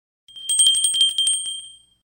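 small hand bell ringing

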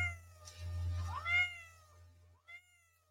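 cat meow sound effect

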